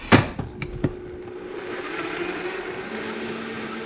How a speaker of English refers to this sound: So I've sliced the tops off of all of our strawberries and thrown them in my blender. And then we're taking that lemon that we zested and we're juicing it in there. Time to blend.